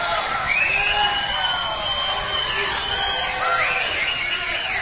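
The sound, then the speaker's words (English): A large crowd shouts and cheers continuously and loudly in praise of Jesus, with overlapping whoops and high voices rising and falling across the whole stretch. “We're not shouting because of a football team. We're shouting because of Jesus.”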